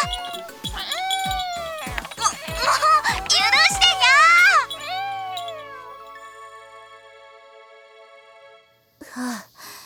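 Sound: cat meowing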